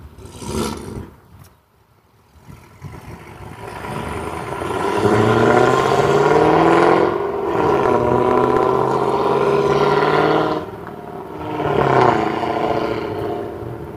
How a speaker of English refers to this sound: That's a noisy car. For as little acceleration as it's doing for all the noise.